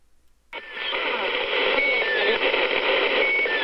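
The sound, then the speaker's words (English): After half a second of near silence, the Squeaky Wheel radio signal, a placeholder transmission that keeps others from using its frequencies, bursts in: a steady wash of hissy static with faint, thin squeaking tones sliding and repeating through it, loud and unbroken. “No, there's the Pip, and this is the Squeaky Wheel.”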